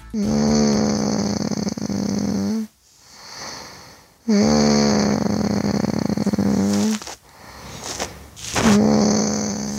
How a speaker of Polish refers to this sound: Ale fajne. No i nie, no cudowne chrapnięcie.